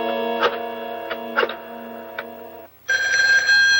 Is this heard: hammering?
no